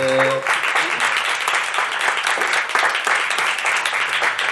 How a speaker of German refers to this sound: Texte veröffentlicht von Autoren aus der Region. Dafür möchte ich mal kurz einen Applaus.